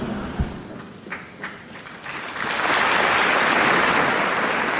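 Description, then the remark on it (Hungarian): Applause from a large crowd packed almost to capacity in the Paul VI Hall, thanking the Pope for his blessing and teaching, starting as scattered claps and swelling after a couple of seconds into dense, sustained clapping that fills the hall. “A nagy tapsot hallva kikövetkeztethetik a kedves hallgatók, hogy bizony szinte zsúfolásig sokan vannak jelen a 6. pálteremben, és szokásukhoz híven így köszönik meg a Szent Atya áldását, tanítását.”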